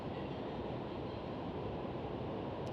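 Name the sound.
rain falling outdoors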